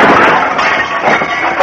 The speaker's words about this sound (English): That's the sound effects man when Jerry Colonna breaks a window pane. That's the sound effects man.